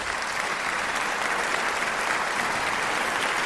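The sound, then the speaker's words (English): A crowd applauds steadily, a dense, continuous wash of many hands clapping, holding the same loud level from start to finish without voices standing out. “Man, this crowd. I'm really impressed.”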